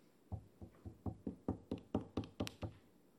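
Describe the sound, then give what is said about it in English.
A man's knuckles knock on a closed bedroom door about ten times in a steady, fairly quick rhythm, each rap sharp and solid with a low thud, the later knocks slightly louder. No voices. “Jody's dad approaches and leans his ear by the door. He raises his knuckles.”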